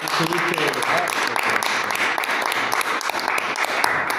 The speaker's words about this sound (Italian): Un applauso, te lo meriti, eh.